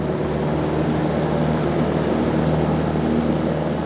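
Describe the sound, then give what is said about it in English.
A small Cessna propeller plane's engine roars at full power in a loud, steady drone with a deep harmonic hum as it takes off from runway 30 on a straight-out departure for a flight over the coast. No voices are heard. “Half of Bay Unicom, Cessna 9860 Quebec, taking 3-0, straight out departure, half of Bay.”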